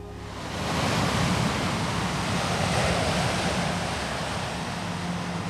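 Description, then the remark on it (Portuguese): Sea waves wash steadily onto a shore, a broad continuous roar of surf that swells in over the first second and then holds, fairly loud, with no voices. “O mar. O mar. O mar nunca acaba.”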